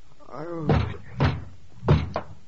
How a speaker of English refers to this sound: Oh, don't tear the door down. I'm coming.